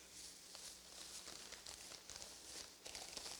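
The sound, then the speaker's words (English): Plastic bags crinkle and rustle steadily for a few seconds around something wrapped in two bags, a dense crackly texture with small irregular pops, fairly quiet, with no voices. “It's so bad it's in two plastic bags.”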